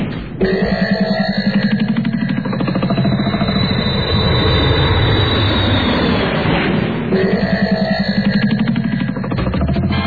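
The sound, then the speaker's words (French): A loud, steady engine roar rises and sweeps in pitch, like an airplane revving up and taking off, with a high whine over a rough rumble that continues for the whole stretch. “Ok, parfait, on a juste le temps de revenir sur la plage, déterrer l'avion et redécoller pour Paris.”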